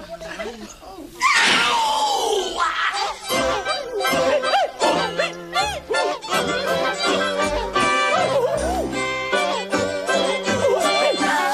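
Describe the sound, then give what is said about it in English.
Human voices yelp and shriek at different pitches, one after another, like notes of a tune, on the Torturetron, a twist on the cat piano with humans instead of cats, from ABC RN's Soundproof. The cries come fast and loud over a steady musical backing. “This is effectively a twist on the cat piano, but with human beings instead of cats as the sound-producing agents.”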